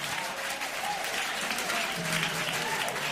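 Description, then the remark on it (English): An audience claps steadily for their exes at the preacher's call, dense overlapping applause filling the whole stretch at an even, sustained loudness, with a few faint voices mixed in underneath. “Clap for ex.”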